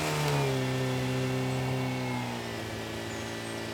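jeep engine revving

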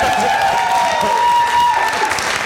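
audience applause and cheering

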